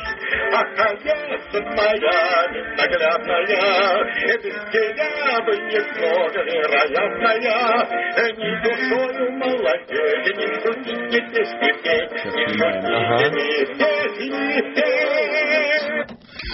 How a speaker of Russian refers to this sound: Дорогие радиослушатели, у нас в прямом эфире программа «Винил» на радио «Эхо Москвы». Только что прозвучала пластинка с записью голоса